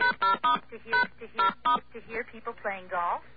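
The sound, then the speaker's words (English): Five quick telephone keypad tones beep in an uneven sequence as keys are pressed on a phone service that plays sounds for its keys, each tone short and bright, followed by a brief stretch of a voice speaking. “And, of course, if you hit other keys, you get her.”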